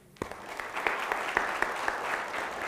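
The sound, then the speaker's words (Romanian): A church audience claps steadily for a few seconds, a dense patter of hands with a few sharper claps standing out, moderately loud, with no talking, in appreciation of a family for machinery given to the church. “Dacă nu te aplaudă biserica, te aplaud eu.”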